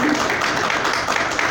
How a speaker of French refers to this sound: On applaudit. Je vous remercie. Merci.